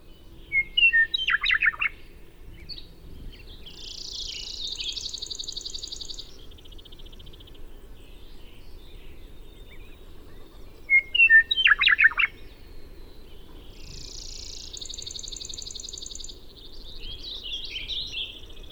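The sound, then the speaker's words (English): A western meadowlark in Montana sings twice, each time a bright burst of flute-like whistles rising into a warbling trill, clear over a low, steady outdoor rumble. “In Montana, the western meadowlark says it all.”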